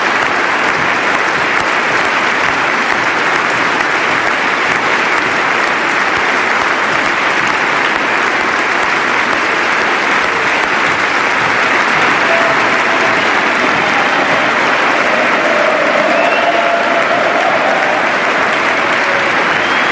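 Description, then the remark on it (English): Sustained, loud applause from members of the House and Senate and other dignitaries at a State of the Union address, honoring Sergeant Ramsburg, an Afghanistan war veteran injured by a roadside bomb, fills all twenty seconds, a dense, steady roar of clapping that never lets up, with faint cheering mixed in and no one speaking over it. “By far the most prolonged applause of this State of the Union address.”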